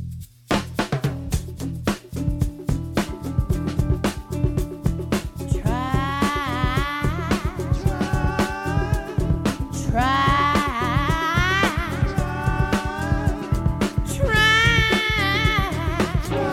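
A loud live band plays a driving rock song with steady pounding drums, and a raw, wavering singing voice that comes in partway through and wails in long bursts.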